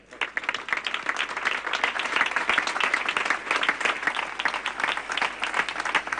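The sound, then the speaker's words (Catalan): Steady applause from a crowd at a Festa Major opening speech, many hands clapping in a dense, continuous patter that holds at an even, fairly loud level for several seconds without anyone speaking over it. “Demanem un fort aplaudiment”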